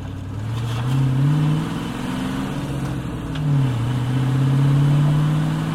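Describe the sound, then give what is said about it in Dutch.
A car, Takel, drives and revs as it rides over the railing of a narrow bridge on two wheels, its low tone rising and falling in pitch over several seconds, climbing twice into loud sustained revs with no voices present. “Hij rijdt over de leuning van een smalle brug, maar niet gewoon. Hij rijdt op twee wielen.”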